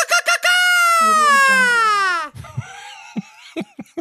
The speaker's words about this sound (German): Ich meine, das war ein mexikanischer Klang. Das war der mexikanische Mariachi-Schrei.